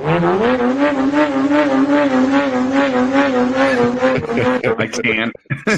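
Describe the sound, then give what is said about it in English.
A voice imitates a Lamborghini's engine exhaust note, revved as hard as it can go: a loud, buzzing drone that wavers steadily for about four seconds before breaking into choppy bursts and cutting off. “It's just an exhaust note.”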